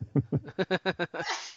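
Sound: sneeze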